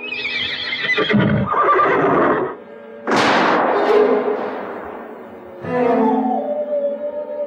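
A horse named Tauka whinnies loudly and urgently at night on the plain by the Guamini river, as aguará red wolves attack, in three agitated bursts, each shrill call rising and wavering before breaking off, with no talking.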